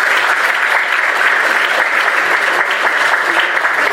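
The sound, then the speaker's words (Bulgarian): A large audience at an awards ceremony claps steadily for musician Hari Ashkenazi after his Bach performance, a dense, loud wash of applause that holds at an even level for the whole few seconds with no voices standing out. “Аплодисменти още веднъж.”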